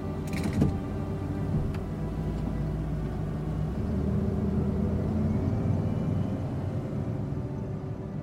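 A car engine rumbles low and steady as the car pulls away and drives through a gate. A brief metallic creak from the gate comes near the start, and there are no voices.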